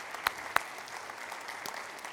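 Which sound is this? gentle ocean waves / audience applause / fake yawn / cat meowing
audience applause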